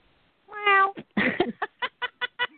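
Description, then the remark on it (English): A cat lets out a drawn-out meow, then a harsher, throaty yowl, followed by a rapid run of six short chirpy mews, fairly loud with no talking. “That's like so a cat.”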